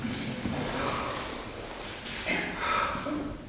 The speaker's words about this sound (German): Während die Spieler für die Nachbesprechung nach nebenan ins Gruppenzimmer gehen, wirkt eine Teilnehmerin stark angeschlagen. Sie schnauft hörbar.